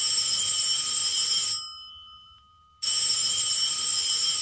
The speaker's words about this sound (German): Es handelt sich um einen Klingelton, ganz normal, der auf dem Handy war.